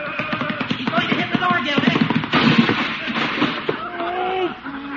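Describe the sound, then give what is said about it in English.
A goat smashes through a wooden door, splitting it right down the middle, in a burst of loud, rapid cracking and splintering crashes that rattle on for several seconds, with a voice crying out toward the end. “Split the door right down the middle. That goat's gotta go.”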